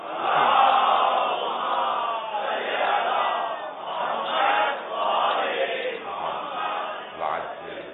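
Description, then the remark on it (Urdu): A large crowd recites salawat together in unison for the pleasure of Sayyid al-Shuhada, a loud, continuous wave of many voices chanting in rhythmic swells for several seconds, with no single speaker standing out. “برائے خوشنودی سید الشہداء صلوات.”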